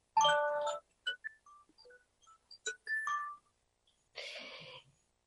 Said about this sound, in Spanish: Perdón, que está sonando mi teléfono en este instante.